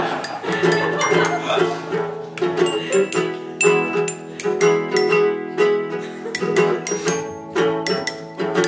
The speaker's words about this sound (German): Okay, dann ist das hier verstimmt wohl. Verstimmt. Entschuldigung, dass ich vorher das Glockenspiel nicht noch gestimmt habe mit meiner Flex.